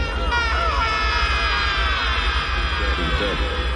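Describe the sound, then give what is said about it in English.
A man's strained, drawn-out yell from a movie scene, supposedly actor Robert Forrester yelling as the characters go through a black hole. It holds for several seconds at a high pitch, loud and continuous, wavering slightly as it goes, over a steady low rumble. “Here's a really bad yell. I think this was Robert Forrester, supposed to be him yelling while they were going through the black hole and everything's getting all twisty.”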